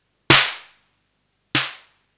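Two sharp, crackling snare hits from a modified drum machine with its noise control turned up, spaced just over a second apart, each bursting bright and noisy with a low tonal thump and a quick decaying tail. No voices.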